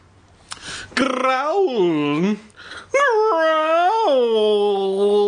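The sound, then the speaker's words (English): Someone imitates a dog growl with their voice while reading a story aloud, instead of growling deep in the throat: two long, loud vocal growls, each wavering up and down in pitch, the second held steadily to the end. “there's two growl sounds coming up”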